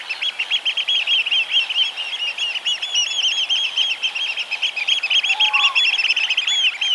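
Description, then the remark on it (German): Oystercatchers pipe shrilly and without pause, high rapid notes running together into loud, continuous trilling that fills all seven seconds with no voices. “Als Küstenvögel hat er auch so eine schrille, piepsige Stimme, damit sich der Ruf gegen das Rauschen der Wellen durchsetzt, vermute ich mal zumindest, die klingen ja alle irgendwie so, die Wartvögel.”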